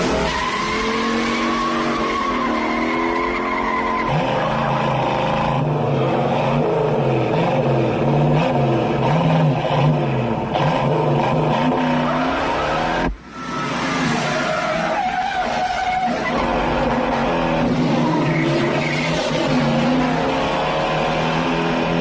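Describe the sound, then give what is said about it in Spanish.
Powerful muscle car engines, a Mustang and a Dodge with a rough carburetor, roar and rev continuously, their pitch climbing and falling with gear changes, loud, with tire squeal mixed in and a brief dip partway through; only the engines are heard, with no music. “Sabe irse a tiempo para dejarnos el rugido del Mustang, característico y pasional, mezclado con el rudo carburador del Dodge.”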